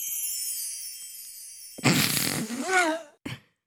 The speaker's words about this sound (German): Was ist bei dir am Ende los? Ist es ein Lacher von dir? Das klingt, als hätte ich gepupst.